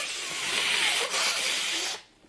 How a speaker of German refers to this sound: Ich muss mal gerade Nase putzen.